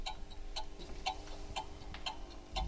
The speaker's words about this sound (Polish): To jest chronometr służący do nadawania sygnału czasu. Mianowicie słyszymy tykanie wskazówek zegara.